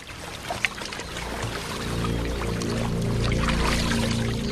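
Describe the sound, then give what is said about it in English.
Water splashes and sloshes steadily as a man swims the crawl to the side of his pool, shaded by palm trees, with a brief sharper splash early on and a continuous low rumble underneath. “swims the crawl to the side of his pool, which is shaded by palm trees.”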